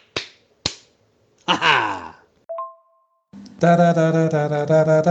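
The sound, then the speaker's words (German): Two sharp, close slap smacks in quick succession, then a sliding cartoonish boing, a short ringing ping, and a loud buzzing harmonic tone that carries on to the end. “Zack! Boing! Ju! Peng! Triple-Ohrfeige”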